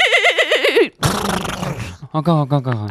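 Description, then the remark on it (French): Someone imitates a horse whinny, a loud wavering, quivering cry followed by a breathy, snorting rush of air and a few more voiced, neigh-like bursts. “tu dirais que je suis plutôt double poney ou pur sang? Un pur sang.”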